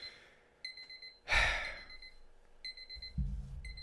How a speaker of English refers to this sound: In case everybody couldn't hear Connor getting the fucking buzzer